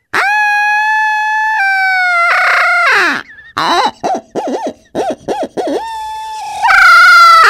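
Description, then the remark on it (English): A loud barred owl call blown on a hand owl call, with sustained hooting notes, a run of rapid rolling yelps and a long wavering finish, performed in a showy competition style like a waterfowl contest, with no voices. “You know, in a competition setting, you know, you would really get on that owl call like you would see in a waterfowl contest.”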